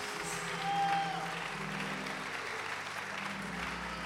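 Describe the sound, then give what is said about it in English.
An audience at a church service claps their hands unto the Lord in a steady, dense wash of applause that swells slightly early on, with a low sustained hum underneath and no voices. “Clap your hands again unto the Lord?”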